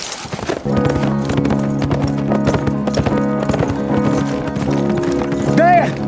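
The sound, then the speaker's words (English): A horse's hooves clip-clop steadily as it is led, for several seconds over a sustained droning background, with a brief high whinny rising near the end. “Rusty led the horse toward the hiding spot”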